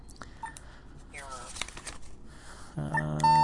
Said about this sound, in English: Okay, so we're on vibrate mode, and it does a big old long bzzz in your hand with an error. Okay, so I'm going to stick this 10 in. And it's one long pulse, one long vibration for a 10. And like the error is like a really, really long pulse.